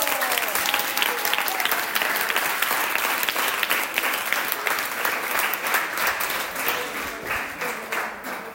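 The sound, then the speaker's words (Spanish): A crowd applauds steadily, many hands clapping in a dense, continuous wash with a few brief cheering tones, holding strong before easing off slightly near the end. “¡Un aplauso!”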